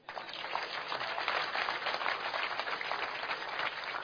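A crowd breaks into steady applause, many hands clapping together in a dense, sustained wash of sound that holds at an even level for several seconds, with no one speaking.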